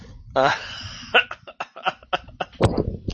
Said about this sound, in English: And what's funny, whether you're on a phone call or just talking to someone online, via voice, if you clear your throat, you usually end up following it.